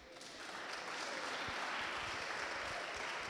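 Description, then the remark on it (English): An audience bursts into applause after being asked to clap if they came from a Pentecostal background, many hands clapping in a dense, continuous wash that swells in the first half second and holds steady and loud throughout. “Yeah, you guys know how to clap for sure.”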